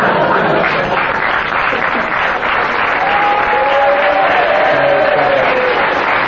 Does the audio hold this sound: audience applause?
yes